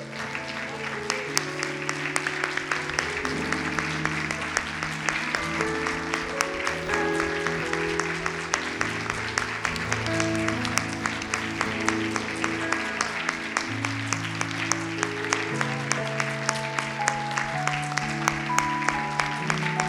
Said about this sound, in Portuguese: Porque Jesus Cristo morreu por nós. Você pode aplaudir Jesus Cristo?